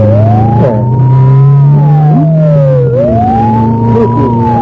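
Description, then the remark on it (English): An ambulance siren wails in slow rising and falling sweeps, loud, over the steady low rumble of a vehicle engine. No one speaks. “She got the first ambulance in the last half hour.”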